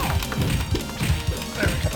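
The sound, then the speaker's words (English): A hand repeatedly bumps a microphone while a video game is being played, giving a quick series of six or seven dull, low thuds in an uneven rhythm over a constant, noisy background. “I keep hitting my microphone.”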